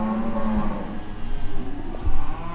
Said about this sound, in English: Street lamps are furnishing the only light at 516 Main Street, and you can hear cattle in a barn at the end of the block.